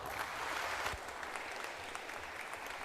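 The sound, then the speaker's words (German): An audience applauds steadily for a few seconds to welcome a speaker before a talk, a dense wash of many hands clapping at an even, sustained loudness with no voices on top. “Und ich bitte euch, sie mit einem ganz herzlichen Applaus zu begrüßen.”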